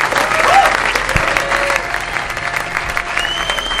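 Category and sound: crowd, audience applause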